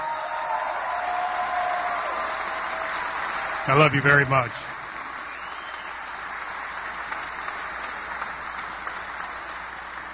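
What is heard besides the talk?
audience applause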